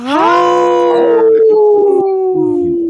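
A single loud wolf howl sweeps upward in pitch, then holds a long, steady wavering note that slowly trails off, clear with no one talking.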